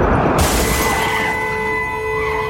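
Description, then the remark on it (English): A sudden, loud explosion in an underground mine bursts in after a brief rumble, shattering the glass of a truck's rear window, its crashing roar lingering as a ringing, reverberant decay echoing through the mine tunnel. No voices. “Then a split second later, a massive explosion rips through the mine, shattering the glass in the truck's rear window and knocking the wind out of Franklin.”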